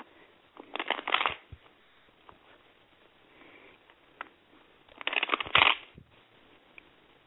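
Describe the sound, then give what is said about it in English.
Two bursts of tarot cards being shuffled, each a quick riffling flutter, with softer handling noises in between. Fairly quiet, with no talking. “Okay, let me shuffle those.”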